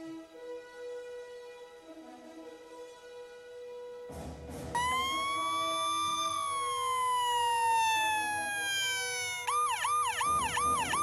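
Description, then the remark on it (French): A toy ambulance truck, switched on in a playroom, starts its siren abruptly and wails loudly with a long rising-falling tone, then switches to a rapid electronic yelp near the end, piercing, with no talking. “Ah, mais comment on arrête ce foutu jouet ? Viens m'aider, cette sirène me casse les oreilles !”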